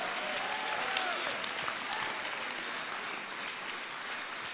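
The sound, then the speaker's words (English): An audience claps hands and shouts praise to God, a dense, steady wash of applause for several seconds, loud and continuous with scattered sharper claps and faint voices mixed in. “Clap those hands.”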